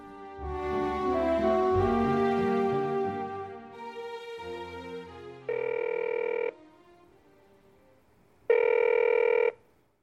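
Soft music fades out, then a phone line rings twice: two clear, buzzy ringback tones, each about a second long with a pause between, heard through the earpiece of an outgoing call to a sister-in-law, the first call in four years.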